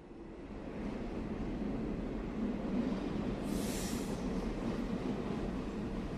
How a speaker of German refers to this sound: Gleich hinter der Schweizer Grenze rollt der ICE ganz gemütlich in den Schweizer Bahnhof von Basel ein.